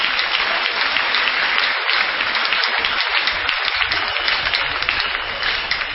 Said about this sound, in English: Can we clap our hands now?